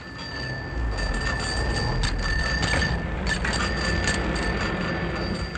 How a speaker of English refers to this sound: Our thousands of cycle bells are a constant reminder to us that ours is indeed a city on wheels.